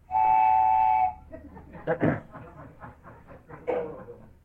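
A train passing outside blasts its horn once, a steady, fairly loud tone for about a second, then fades into indistinct voices and murmur.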